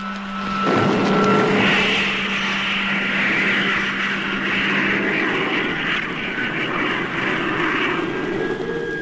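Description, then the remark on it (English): A loud, sustained roar of a spaceship's rocket motors firing, a broad rushing thunder with a low steady hum, holding strong for the whole stretch with no voices. “Stand by for firing. In 5 seconds. 4, 3, 2, 1. Contact!”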